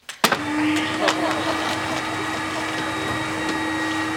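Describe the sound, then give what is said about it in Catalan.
A vacuum cleaner is switched on with a hard stomp on it, then runs steadily with a loud, continuous whirring drone and a sustained motor whine, uninterrupted, in a dark flat's living room at half past one in the morning. “Encén els llums de la sala i trepitja fort l'aspiradora.”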